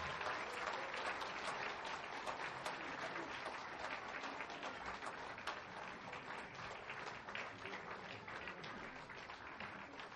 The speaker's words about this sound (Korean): 다시 한번 1교구에게 큰 박수 부탁드립니다.